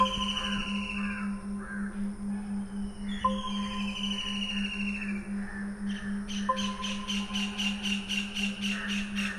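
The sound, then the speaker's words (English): Birds call repeatedly, their chirps and caws recurring over a steady low electronic hum, with a quick rhythmic run of calls near the end. “There's the birds.”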